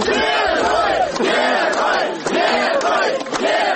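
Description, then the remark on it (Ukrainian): A large crowd at the Minsk bus station in Belarus shouts and chants loudly and continuously, greeting Mykola Statkevich, a 2010 Belarusian presidential candidate; many voices rise and fall together in rhythmic swells about every second. “Такими вигуками на мінському автовокзалі зустрічали екс-кандидата на виборах президента Білорусі 2010 року 59-річного Миколу Статкевича.”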